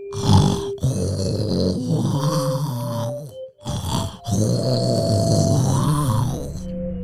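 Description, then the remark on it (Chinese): A loud, rough roaring growl comes in two long, drawn-out bursts with a short pause between, deep and guttural, like a voice imitating a beast, coming from a bed in a grandfather's room. “爷爷把奥利弗带到他的房间，大吼声从床上传来。”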